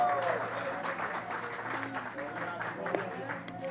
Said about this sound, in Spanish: Dale un aplauso a nuestro Dios en esta mañana.